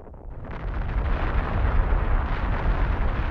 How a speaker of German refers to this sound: 27. August 1883. Eine gigantische Explosion erschüttert die Erde. Sie hat ihren Ursprung auf Krakatau, einer unbewohnten kleinen indonesischen Insel zwischen Sumatra und Java.